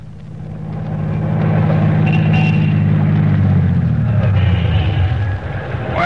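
A car engine runs steadily with a loud, low droning hum, its pitch sliding slightly downward near the end as it settles, with some rattly mechanical noise above.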